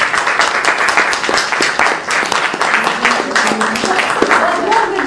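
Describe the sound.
An audience breaks into steady, dense applause that holds at full strength for several seconds, with a few voices faintly mixed in beneath the clapping.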